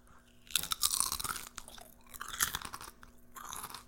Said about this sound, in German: Du wolltest noch irgendwie, glaube ich, irgendwelche Chips kauen, glaube ich.